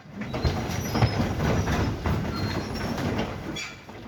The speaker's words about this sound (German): Auf meinem Baustellenbesuch sind gerade die Abbrucharbeiten mit dem sogenannten Gleishobel im Gang.